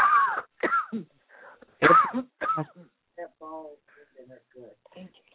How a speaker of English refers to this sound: Now take a deep breath and cough them out.